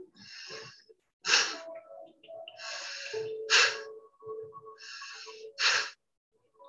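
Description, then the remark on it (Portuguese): Three sharp, forceful exhalations through the nose during a skull-shining breathing exercise, spaced about two seconds apart, each following a softer breath drawn in through the nose. Fairly quiet overall, with no talking. “Inspira pelo nariz e solta forte pelo nariz.”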